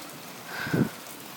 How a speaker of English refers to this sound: It's serious rain. Exactly. Whew. That's the worst rain we've had in a long time. Yeah. We haven't had any of the heavy rain, have we? Till now.